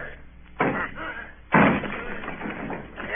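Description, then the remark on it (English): Two heavy, splintering crashes about a second apart, loud, as the door of a house is battered and broken down, with clattering and debris trailing off after each impact. “Down with the door, then!”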